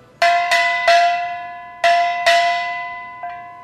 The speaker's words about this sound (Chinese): 接下来我要介绍的乐器是小锣，请大家听听看。